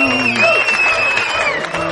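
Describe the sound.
Steady crowd applause at a live show, Den Show, fills both seconds, a dense wash of clapping with cheers and a sustained high whistle running over it, voices mixed in the noise.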